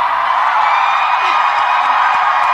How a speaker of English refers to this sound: They're cheering for Fauci like a rock star.